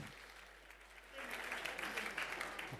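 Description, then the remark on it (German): Audience applause from a sizable crowd, starting moderate and swelling louder after about a second into a steady, dense clatter of clapping that continues to the end. “Applaus.”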